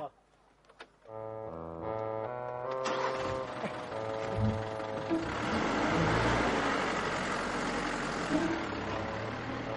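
A car engine hums steadily at idle, then revs up into a louder, rougher roar as the vehicle pulls away, building in intensity.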